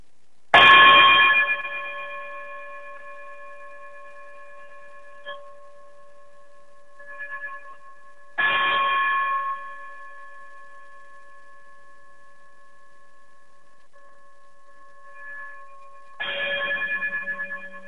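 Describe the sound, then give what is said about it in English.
Three bright, ringing chime strikes arrive several seconds apart, each a sharp onset with steady harmonic overtones that sustain and slowly fade, with a few faint softer tones between them and no talking. “if you would be so kind to chime us out, greatly appreciate.”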